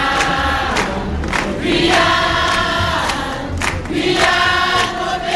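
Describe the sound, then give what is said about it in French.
A loud, dense protest crowd gathered in front of gates roars continuously, with blaring horn-like tones and rhythmic banging or clapping cutting through the din. No clear speech stands out. “Dans la foule massée devant les grilles, beaucoup parlent avec malice de cette nouvelle action comme du nouveau coup d'éclat des collectifs.”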